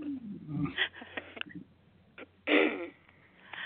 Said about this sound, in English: Oh, you sound so awful. I feel so bad. It hurts my ribs to hear you coughing like that.